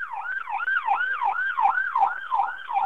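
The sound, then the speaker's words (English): An ambulance siren wails steadily in a rapid rising-and-falling yelp as the ambulance goes by, moderately loud, sounding on its own without any talking over it. “Excuse me, I'm hearing this ambulance go by.”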